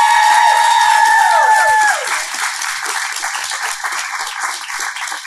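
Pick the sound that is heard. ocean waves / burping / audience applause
audience applause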